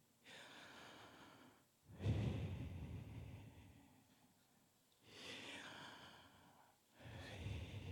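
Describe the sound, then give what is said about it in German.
Slow, deliberate human breaths, demonstrated by a speaker: two long inhalations and exhalations, each a soft airy rush swelling and fading, separated by brief pauses, with no talking. “Jedes Mal, dass der Mensch atmet, klingt es nach dem Namen Gottes.”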